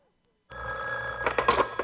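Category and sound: signal or alarm, telephone bell ringing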